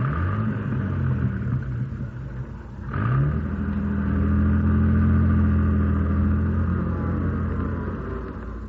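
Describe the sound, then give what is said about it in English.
A rough old car engine rumbles and revs as the vehicle pulls away across a road, shifting up in pitch around midway, then settles into a steady, droning hum with no talking. “Now drive this jalopy across the road.”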